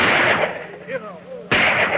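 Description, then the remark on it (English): Two loud gunshots, fired by Pandro Zanti through a cabin window after he smashes the glass, ring out about a second and a half apart, each a sharp, harsh blast with a lingering rumble, and faint high ringing tones fill the gap between them. “He smashes the glass and fires.”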